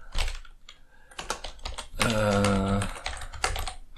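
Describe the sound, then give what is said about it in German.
Typing on a computer keyboard, quick irregular bursts of clicking keys, paused midway while a voice briefly speaks or hums, then the tapping resumes. “Heute mal wieder mit Tastaturgetippe.”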